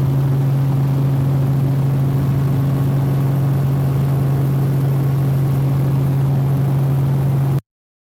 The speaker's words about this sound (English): Flying over a big pontoon that we're going to land on to do some snorkeling on the reef. Spent a couple of hours out here, so he's just maneuvering the helicopter right now. Put us in for a landing.